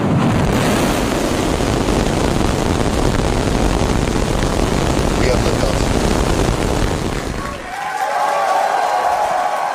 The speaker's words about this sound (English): SpaceX employees cheered as the rocket blasted off from its new launch pad in Texas last night. 5, 4, 3, ignition.